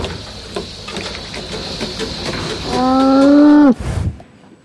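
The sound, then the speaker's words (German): A cow gives one loud, drawn-out moo that sags in pitch at the end, over a steady mechanical hum and faint clicking machinery in a robotic milking barn, where a milking robot milks the cow. “Renate kam in den Roboterstall. Der Melkroboter melkt die Kuh.”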